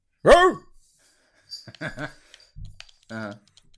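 A Casio electronic keyboard's dog-bark sample plays a few times: a loud, pitched synthetic yelp, then several shorter, buzzier barks separated by brief silences, with no talking over them.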